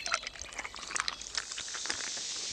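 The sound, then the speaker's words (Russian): Water pours into a small toy rocket to make it fly, a steady, splashy trickle with bright bubbling and gurgles, lasting a couple of seconds with no voices. “Тебе нужно только залить немного воды, и она полетит.”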